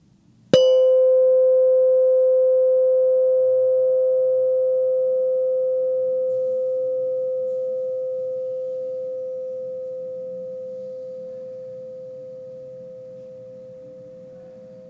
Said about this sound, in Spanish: Ahora vas a escuchar el sonido de una campana. Pon atención a ese sonido y date cuenta del momento en que dejes de escucharlo.